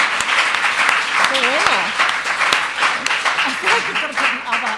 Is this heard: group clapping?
yes